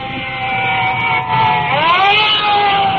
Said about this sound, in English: And looking over my shoulder, additional fire trucks are pulling up and are coming in directly behind us. Well, I can hear their sirens, so we'll just stand by.